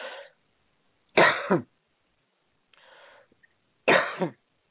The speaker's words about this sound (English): excuse me for coughing in your face, but see, I'm having to multitask